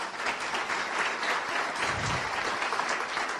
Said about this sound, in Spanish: Yo quiero dirigirme a todos y cada uno de ustedes, darles la más cordial bienvenida, no solamente a los que vienen esta tarde por primera vez, para quienes quiero pedirles nuevamente un aplauso.